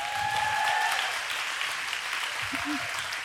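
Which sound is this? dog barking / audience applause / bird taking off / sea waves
audience applause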